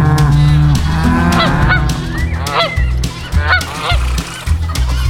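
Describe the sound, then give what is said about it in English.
Several geese on a farm honk loudly in a rapid, overlapping flurry of nasal calls that continues throughout, with a steady low hum running underneath. “There's lots of animals here. A cat, some geese, some horses and cows.”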